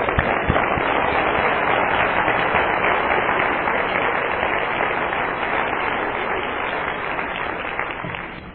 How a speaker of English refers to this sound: I don't see that applause for me, so I'm glad to encourage it for him.